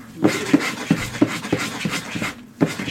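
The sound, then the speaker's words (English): Rapid, rhythmic panting from a wolf, with breathy bursts about every third of a second and a faint whine mixed in, fairly loud, no talking. “You would know that that's a wolf.”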